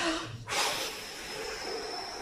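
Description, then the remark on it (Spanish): A person telling the story of the three little pigs imitates the wolf blowing at the pigs' house: a short intake, then a long, forceful breathy whoosh that trails off into a steady hissy exhale. No words are spoken. “Pues soplaré y la casita derribaré. ¿Y cómo soplaba?”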